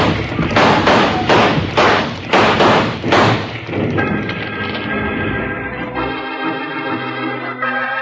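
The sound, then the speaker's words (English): A rockslide roars down a hill in a loud rush of heavy, rumbling crashes and thuds for about four seconds, then gives way to sustained musical tones that swell and hold. “Bill, the whole hill's coming down.”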